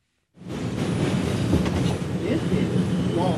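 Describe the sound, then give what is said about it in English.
A train rumbles in, a steady loud roar of wheels and carriages on the rails after a brief silence, with faint metallic squeals rising near the end, as commuters file out of it to work on Wall Street just before 9 a.m. “It's just before 9 a.m. and people are filing out of the train to work on Wall Street.”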